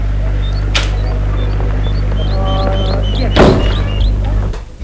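household object, door closing

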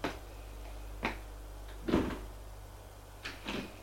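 household object, door opening

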